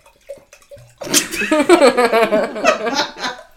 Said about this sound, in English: That's just the sound of the creek outside the house.